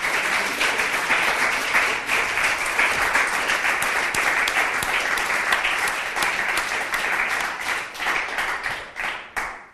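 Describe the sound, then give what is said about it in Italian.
Sustained audience applause for the speakers, a dense, steady wash of many hands clapping that holds at an even loudness for most of the stretch, then thins to a few scattered claps and fades out at the end. “Und ich glaube, unsere Referenten haben einen Applaus verdient für ihren Einsatz und für die Information.”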